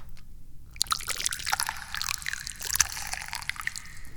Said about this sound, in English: As he sloppily pours it into the cup. Oh, and now I got a little drip running down the side.